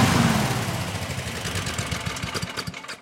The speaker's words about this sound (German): Endlich ist da Ruhe. Heute geht's bei uns um Überdruckbelüftung, wie ihr ja schon gehört habt. War ja auch fast nicht zu überhören. Stefan meinte ja, wir sollen das Intro vor dem Überdrucklüfter aufnehmen.